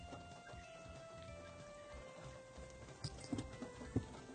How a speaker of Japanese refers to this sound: なんかパリパリ音がしてます。 うん、今雨が降り出した。